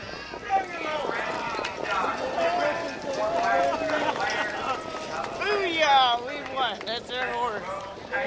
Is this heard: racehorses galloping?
yes